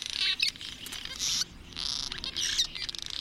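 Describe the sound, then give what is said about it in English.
High, thin cliff swallow squeak calls, which tell other birds that food has been found, repeat in quick overlapping bursts, several birds calling in a busy, chattering cluster with no voices present. “These birds have only five different calls, but one, a unique squeak call, tells others that they've found food.”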